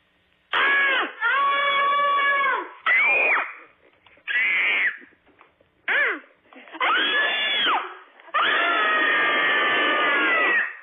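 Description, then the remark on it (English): A small dairy-farming family from Gilman, Wisconsin, a couple and their four kids, scream together a cabin fever scream in a series of loud, sustained bursts, high-pitched and strained, with short gaps between each shriek and a long final scream. “We are small dairy farmers in Gilman, Wisconsin, and we are going to do our best cabin fever scream.”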